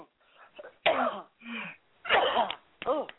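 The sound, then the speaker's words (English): A series of four heavy, deep coughs spaced about half a second apart, harsh and throaty, with brief pauses in between and no talking. “And you just take a deep cough and cough them out right now.”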